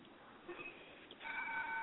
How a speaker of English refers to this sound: Oh, that's the clock. Yeah, clock.